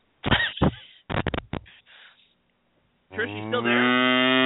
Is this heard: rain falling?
no